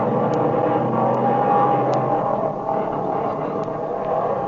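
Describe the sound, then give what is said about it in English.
An airplane engine drones steadily and smoothly, a loud, even roar with no sputtering that holds without a break from start to finish. “That engine's talking now like a lady sewing circle.”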